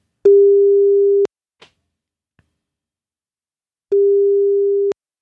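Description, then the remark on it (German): A steady telephone line tone sounds twice while calling back a person whose call had dropped, each tone about a second long with a long silent gap between, with a faint click or thump in the pause; no one speaks. “Oh, ich sehe gerade, der ist gar nicht mehr am Telefon. Müssen wir mal gerade zurückrufen.”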